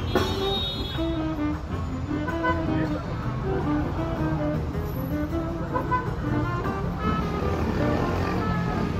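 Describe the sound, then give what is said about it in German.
A steady, loud rumble of idling and crawling car engines in an afternoon stop-and-go traffic jam on Avenida Paulista in São Paulo, Brazil, with sustained horn-like tones over the dense traffic noise throughout, as a jazz quartet plays between the cars. “Und das Jazzquartett, das sie begleitet, spielt an gegen Hupen und Motoren.”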